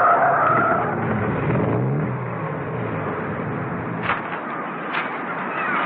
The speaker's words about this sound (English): A short while after that, Mrs. Peel, at the wheel of her car, headed up the cliff road. She parked skillfully by the rocky path that led to the lighthouse.